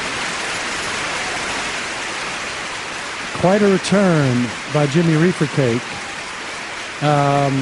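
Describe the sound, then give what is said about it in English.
Steady, dense audience applause fills the whole stretch as a continuous crackling hiss, and a man's voice speaks over it during the second half. “I got to say, the applause was the way that he worked in the stop, the TPP.”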